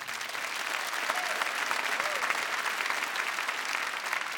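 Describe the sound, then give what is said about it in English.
Steady applause from an audience at a Northumbrian music performance, a dense crackle of many hands clapping at once, sustained and even throughout with no one speaking. “Here's a round of applause, yeah.”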